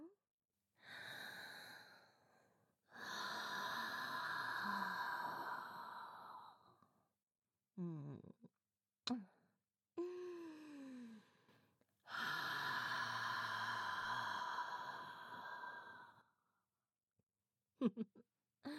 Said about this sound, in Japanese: ほら、お口を塞いじゃいます。鼻だけで吸い込んでくださいね。私のお酒臭い吐息を。いきますよ。